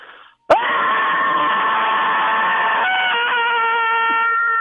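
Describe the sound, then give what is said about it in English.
A man, pretending to be on the world's tallest diving board, lets out a loud, sustained scary-movie scream that bursts in abruptly and holds a steady high pitch for about four seconds, wavering and dropping slightly near the end. “Pretend like you are on the world's tallest diving board and give us your best scary movie scream.”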